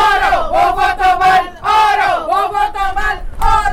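Outside the Brievengat polling station, would-be parties trying to draw voters' attention shout in loud, rhythmic chant-like bursts, many voices rising and falling together in repeated phrases with brief dips between them.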